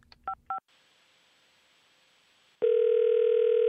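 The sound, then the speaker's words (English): Two quick electronic beeps, then a stretch of faint line hiss, followed by a loud, steady telephone dial tone droning on without a break after a phone call's line went dead. No one speaks. “The line just went dead.”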